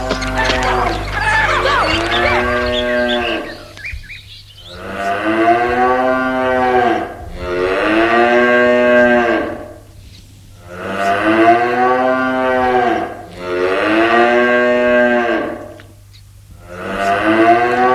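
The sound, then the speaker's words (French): Several long, loud moos from large horned cows follow one another with short pauses between them, deep and drawn-out, echoing inside a dark, warm cowshed next to a house, with some brief higher animal noises at the very start. “Guillaume voit les vaches.”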